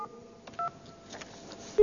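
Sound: telephone keypad dialing tones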